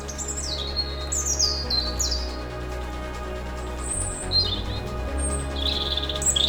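Birds chirp and sing outdoors among rocks and trees in the Armorican Massif in short, high, bright phrases scattered across several seconds, fairly clear over a steady low background rumble, with no voices present.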